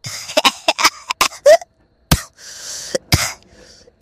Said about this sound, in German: Oh, scheiße. Das war wirklich Husten, das war nicht. Ist aber egal.